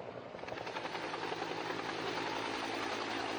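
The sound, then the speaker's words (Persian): A helicopter roars, its rotor thumping in a fast steady beat over a loud, continuous engine whine that holds level throughout. It belongs to the helicopter columns of the Iranian IRGC Ground Force's Eqtedar exercise, on the exercise's second day, as equipment was moved into the exercise area. “بیش از 500 دستگاه از یگانهای زرهی، موشکی، یگان توپخانه، یگان مهندسی و ستونهای بالگردی در کمترین زمان ممکن مسافت 400 کیلومتری را طی کردند.”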